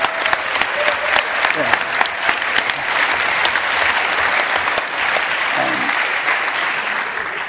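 A large audience claps steadily and loudly for several seconds, a dense continuous patter of many hands filling the room without a pause.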